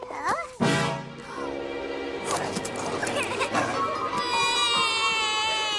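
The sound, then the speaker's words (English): A baby cries in loud, high, wavering wails that rise and fall over several seconds, with other voices mixed in underneath, as Christmas carol singers sing at the door. “You're not supposed to cry.”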